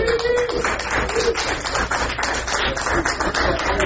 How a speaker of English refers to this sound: So we have five great people who have provided us with nibbles. Food. That should be rigorous applause. Hooray for food.